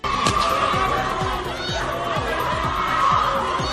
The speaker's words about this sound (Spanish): Gritos, música de fondo, la Policía Nacional.